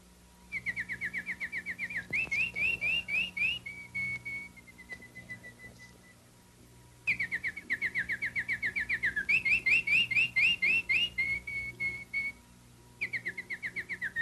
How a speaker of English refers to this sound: Pretty, isn't it? Did you guess that? That it was a canary whistling and singing?